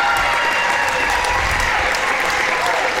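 crowd applause

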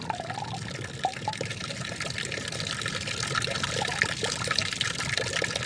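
water flowing

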